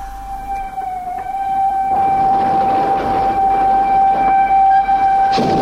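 A train pulls into a station, with a steady high-pitched whine ringing over a low rumble that swells louder partway through and stays heavy to the end. No one speaks.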